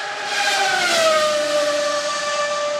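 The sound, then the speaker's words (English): A Formula One engine, a turbocharged V6 combined with electric motors, gives a loud, steady, high-pitched whine with layered harmonic tones over a rushing roar, its pitch sliding downward about a second in. No one speaks. “turbochargers, and a V6 engine. They kind of sound futuristic in a way. I like the sound of them.”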